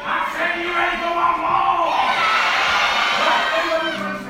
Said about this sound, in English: The sound of rapturous applause is all the cast of Aladdin at the Grand Opera House York could have ever asked for.